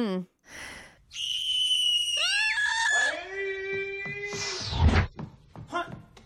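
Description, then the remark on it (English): A woman lets out a long, piercing scream as she wakes up, her voice wavering and sliding downward over several seconds before breaking off into a short, breathy burst. “Anyways, she wakes up and just screams.”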